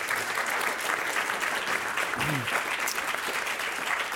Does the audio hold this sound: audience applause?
yes